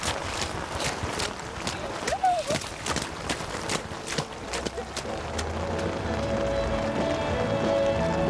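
Quick, repeated splashing footsteps slap through shallow puddles, one after another in a steady running rhythm, then fade out. A low steady background hum lingers behind them.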